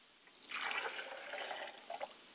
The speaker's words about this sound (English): We pour the libation to acknowledge Richard's absence from the body, but presence ever so more in the spirit.